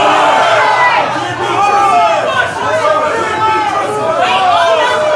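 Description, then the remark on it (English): A crowd shouts answers over one another after being asked who is winning a rap battle: loud, overlapping chatter, many voices calling out at once in a steady roar with a few higher yells rising above the babble. “I'm asking the crowd too. Who is winning this battle?”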